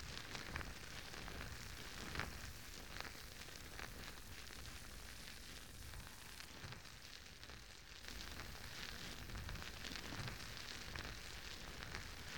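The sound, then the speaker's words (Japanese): Steady fizzing of bubbles, a dense crackling hiss full of tiny pops that runs without pause for the whole stretch, fairly loud and even, with no voices. “目を閉じて泡の音をじっくり聞いてくださいね。”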